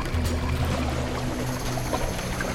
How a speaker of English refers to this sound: Just then, a tidal wave of water flooded the shore.